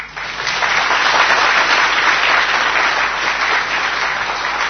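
audience clapping hands

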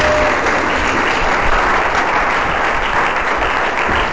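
audience applause

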